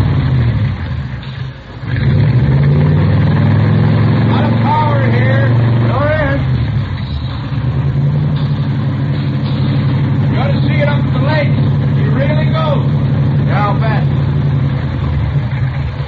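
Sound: car engine revving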